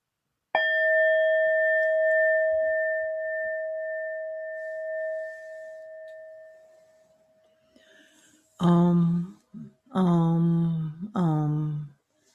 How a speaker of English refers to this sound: I'm going to ring the bell, then I'm going to leave the room.